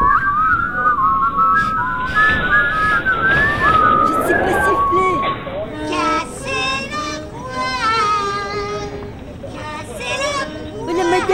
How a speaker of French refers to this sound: On fait comme tout le monde. C'est-à-dire? On regarde en l'air et on siffle.